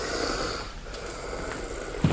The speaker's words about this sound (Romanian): Ia te uite ce bițel. Cum sforăie.